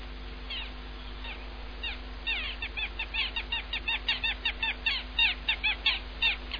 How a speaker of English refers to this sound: Gulls sing for us over the Pranava River.